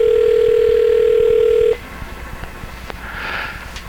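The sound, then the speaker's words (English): A telephone ringing tone on an unanswered call at 2:30 in the morning: one steady, mid-pitched electronic tone sounds loudly for under two seconds, then cuts off, leaving faint line hiss and a few soft clicks. “Three more rings for Big Daddy.”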